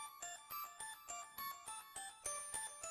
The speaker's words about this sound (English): The bells really do sound so lovely.